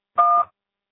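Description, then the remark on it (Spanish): A single phone keypad tone as the pound key is pressed on a voicemail system to finish recording a message: one short, steady electronic beep of two blended pitches, about a third of a second long, then silence. “Marque la tecla gato cuando termine.”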